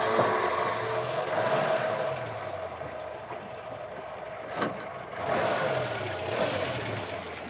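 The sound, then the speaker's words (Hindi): A truck engine starts up, then rumbles and drones steadily throughout, loud, with a sustained hum and a brief swell of revving partway through; no one speaks. “अब ये ट्रक चालू होती है।”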